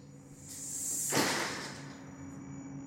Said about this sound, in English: We fling aside the broken screen door.